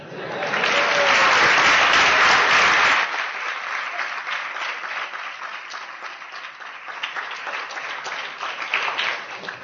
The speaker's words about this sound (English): Your clapping sounded more like the sea than my imitation.